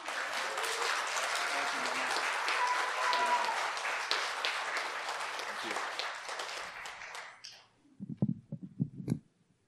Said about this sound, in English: Can we honor this amazing woman of God, and just, can we stand to our feet and just thank her, just give her a little bit of applause.